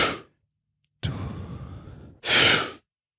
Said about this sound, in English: Now, if you don't want to be like full of oxygen all the time, but you do all these breathing sets, and then you let go.